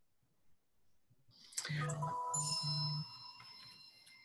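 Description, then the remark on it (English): A bright electronic chime rings out for about a second and a half, several clear tones layered together, then fades with a lingering ring. It is a mobile phone ringtone. “Sorry, my phone. Oh, no, that's a nice ring,”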